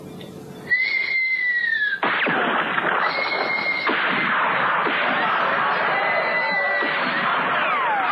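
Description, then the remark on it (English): A person imitates a bird call as a signal, with a few high, sustained whistled notes, one long tone followed by a shorter one, over a steady wash of busy background noise. “get that weird bird signal of yours ready.”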